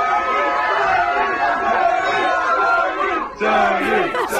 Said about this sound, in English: There was about 100 people at this party, and they went nuts for him. Listen to this.